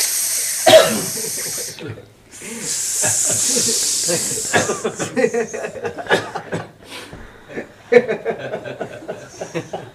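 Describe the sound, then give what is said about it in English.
A long, breathy hissing rises and swells, followed by a jumble of sputtering, chortling vocal noises and short hisses, like many snakes hissing. “And tumultuous effect of all the snakes.”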